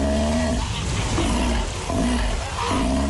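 Loud, harsh bellowing roars from a sea lion, an Antarctic species, repeated in a rough rhythm of about three calls, dense with a buzzy, honking quality and no speech.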